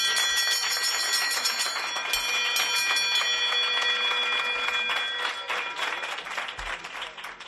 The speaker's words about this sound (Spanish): tocaba esta campana llena de orgullo y lo hacía porque no es para menos, porque con este gesto la pequeña estaba avisando de que su tratamiento ha llegado a su fin.